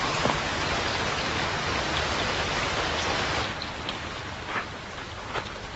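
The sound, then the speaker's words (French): Steady rain pours down in fog in a dense, hissing wash, with scattered drops pattering more distinctly as the downpour eases slightly partway through. No voices. “Voilà qu'il pleut maintenant.”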